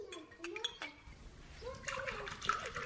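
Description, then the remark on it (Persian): Tea streams into a glass as a mother fills it for her child, with a soft, gurgling splash that rises slightly in pitch as it fills, while a voice murmurs faintly in the background. “مادر جان، تو یک گلاس چای دگام پر تو، چی یک مزه دار.”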